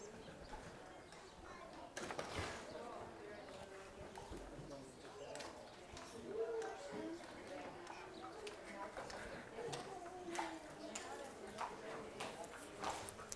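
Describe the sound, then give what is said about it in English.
Imperator, a five-gated American saddlebred show horse at the Hall of Champions, walks with hooves clip-clopping steadily on a hard surface, a regular walking rhythm of sharp, distinct hoofbeats, with indistinct voices murmuring in the background. “This is Imperator, and he is a five-gated American saddlebred show horse.”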